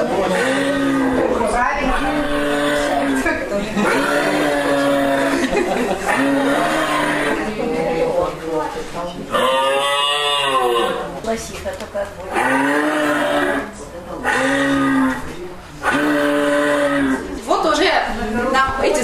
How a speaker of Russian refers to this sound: Большинство определили правильно, как лося. Это был лось, это был лось-самец, который трубит о том, что вот пора там размножаться.